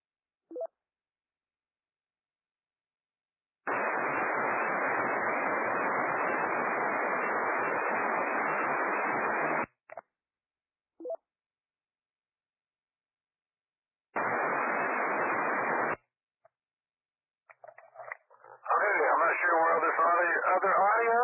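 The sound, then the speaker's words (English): Loud static hisses steadily from a radio receiver with its squelch turned down for about six seconds, cuts off abruptly, then returns in a shorter burst before a voice comes through the receiver near the end. “We have squelch turned down, I think.”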